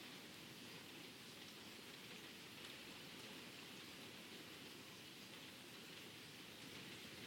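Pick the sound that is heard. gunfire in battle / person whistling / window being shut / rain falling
rain falling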